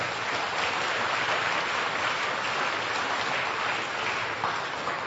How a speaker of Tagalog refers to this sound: Sino may gusto noon pumalakpak ng malakas sa Panginoon?